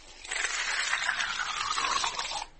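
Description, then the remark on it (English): Water pours from a jug as part of a trick, in one steady, splashy stream lasting about two seconds, with a gurgling tone that slowly shifts in pitch before it stops abruptly. No one speaks. “All I have to do is pour water from this jug.”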